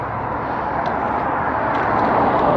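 cars driving by outside

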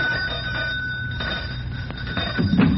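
pull doorbell ringing

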